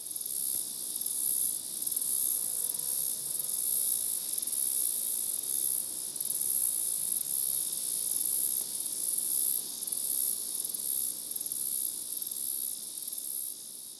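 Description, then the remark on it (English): A dense, continuous high-pitched drone of crickets and cicadas by a road in Iowa fills the air, steady and loud throughout with no pauses, over a faint low rumble like road traffic. “Iowa, Crickets Cicada Road, 344730 dot wave.”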